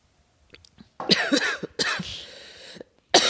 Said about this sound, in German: Schmeckt gut, aber ich habe halt immer noch Husten. Ja, Husten, wir haben ein Problem.